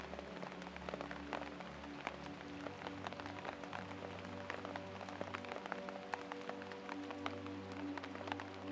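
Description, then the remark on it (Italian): Steady rain patters on tree leaves, a dense, irregular scatter of small drips and taps over a low continuous hum, fairly soft and even throughout with no voices. “Ascolta il ritmo costante della pioggia, il suono delle gocce che cadono sulle foglie degli alberi, creando una sinfonia che ti avvolge.”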